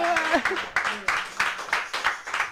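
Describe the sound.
A short burst of applause, with many hands clapping in a quick, steady rhythm. A few voices call out over the clapping at the start.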